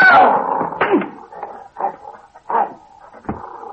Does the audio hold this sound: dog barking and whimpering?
yes